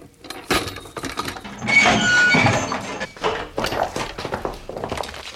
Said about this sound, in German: Nach etwa einer Stunde näherten sich hinter der Kellertür plötzlich Schritte.